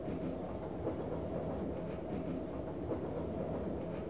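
A packed commuter train rolls steadily along the tracks, its low, continuous rumble even, with faint rhythmic clatter of wheels beneath. No voices are heard.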